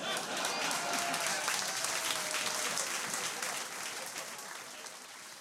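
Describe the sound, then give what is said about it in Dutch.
Sustained audience applause for Jan Oudenaarde in kantine Walhalla on 8 April, a dense wash of many hands clapping at a steady level throughout, easing off slightly toward the end without stopping. “Applaus voor Jan Oudenaarde op 8 april vorig jaar nog maar in kantine Walhalla.”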